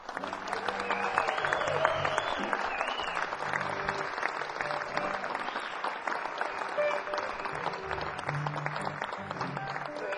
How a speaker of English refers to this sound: And just to get you warmed up, why don't we have a practice round of applause, and I want you guys to all give yourselves a big round of applause for coming out and seeing live music on a weeknight.